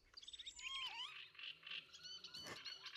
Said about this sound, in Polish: Taki oto, proszę Państwa, dźwięk. Podobno brzmi to w takim wolnym, ludzkim tłumaczeniu z języka ptasiego na język polski. Czyjś ty, czyjś ty.